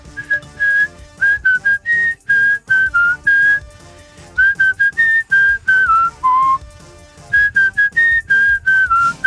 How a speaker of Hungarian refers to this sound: Most fütyüld el ezt a reptért.